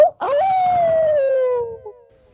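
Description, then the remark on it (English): A person lets out a single long wolf-like howl, rising quickly then sliding slowly downward in pitch before fading out, loud with no talking. “You said you didn't know how to howl. Come on. That was a great howl.”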